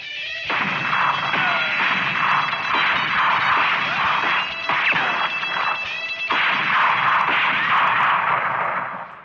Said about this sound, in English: But it was finding one that didn't sound like a bad sound effect. We had access to the BBC sound library, which is unbelievable. And so they found a gunshot that was the perfect one for the song.